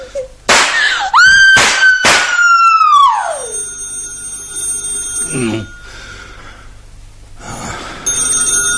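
A loud telephone ringing with a bright, sustained electronic tone that swoops and slides in pitch at first, then holds steady, with a few sharp knocks and no one speaking.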